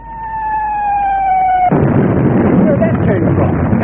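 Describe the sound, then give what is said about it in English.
An artillery shell fired from one of the ships: its high, steady whistle drops slowly in pitch for under two seconds, then cuts off into a loud, rumbling explosion whose roar and crackling debris carry on to the end. “That was a shell from one of those ships out there.”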